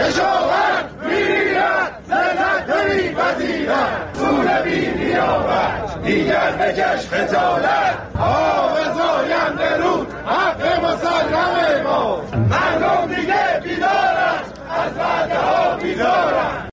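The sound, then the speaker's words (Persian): A large crowd of farmers from east and west Isfahan chants loudly and continuously on a Saturday in the town of Chadegan, Iran, protesting the handover of their water rights from the Zayandeh Rud and the river's drying up; many voices shout together in rough repeated bursts with brief dips between phrases, no single speaker standing out. “بنابر گزارش‌های منتشر شده در شبکه‌های اجتماعی، کشاورزان شرق و غرب اصفهان در اعتراض به واگذاری حقابه خود از زاینده رود و خشکی این رودخانه روز شنبه در شهر چادگان تجمع کردند.”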